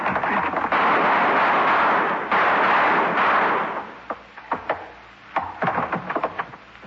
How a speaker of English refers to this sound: I'll shoot the lock, and then we go in. I hit the door.